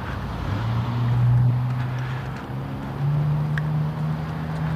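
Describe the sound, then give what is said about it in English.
Outdoor street traffic on West 20th rumbles steadily on a chilly morning, a low engine drone that swells and eases as vehicles pass, with wind-like hiss layered over it and no voices. “The traffic on West 20th is particularly obnoxious this morning for some reason.”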